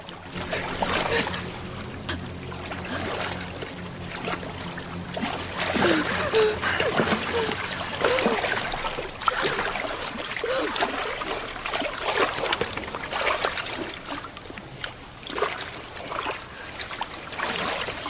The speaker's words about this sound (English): She looks round as she treads water.